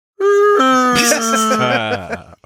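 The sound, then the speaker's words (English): A person voices a loud, drawn-out whale call, a single moaning tone that slides downward in steps for about two seconds before cutting off. No words are spoken. “Do you want to do a whale noise?”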